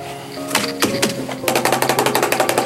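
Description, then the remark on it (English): A paintbrush is rapped hard after washing to shake it dry: a few separate knocks at first, then a quick, steady run of about a dozen sharp, clattering taps. No one speaks. “Now then, I get carried away with his brush cleaning.”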